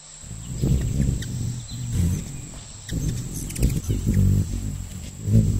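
Hummingbird wings hum in flight, beating up and down about 55 times per second, a low, continuous buzzing drone that swells and fades as the bird hovers, with no voices and faint high background hiss.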